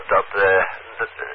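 Military radio interference from military FARP systems covering Friesland, Drenthe, Groningen and Overijssel, picked up on the 70 centimetre band, comes through as a brief, loud, tinny burst of garbled, buzzing transmission, pulsing in three quick surges with a voice-like warble and no clear words.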